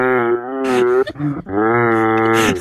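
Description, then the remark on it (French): A person imitates a woman giving birth in a hospital: two long, drawn-out moaning calls, deep and cow-like and loud, separated by a brief break with a few rough groaning sounds. No talking. “Il y a une nana qui accouche.”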